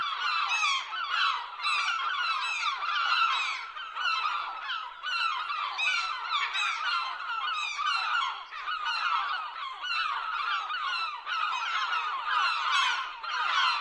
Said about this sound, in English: So to do this, here is your first chance to hear my squawking seagulls. Enjoy.